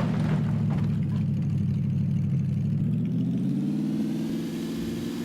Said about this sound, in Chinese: 就孤独双排，我好像听到引擎的声音。